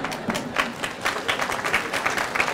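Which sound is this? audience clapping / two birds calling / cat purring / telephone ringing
audience clapping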